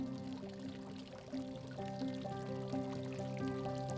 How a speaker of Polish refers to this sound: Idąc ścieżką dochodzisz do fontanny.